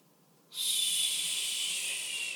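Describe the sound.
A voice imitates a snake's hiss: a single sustained, breathy hiss that starts abruptly and holds steady for about two seconds, fairly loud, with no talking.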